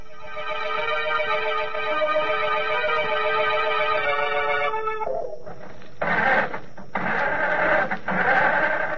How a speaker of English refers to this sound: I can't understand it. The motor won't turn over. Somebody must have meddled with this car while we were in the house.